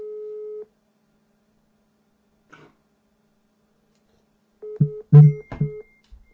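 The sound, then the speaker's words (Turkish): A phone hang-up busy tone: a steady beep cuts off, then after a quiet gap several short beeps repeat while someone coughs or clears their throat. “Telefonu kapatmazdı.”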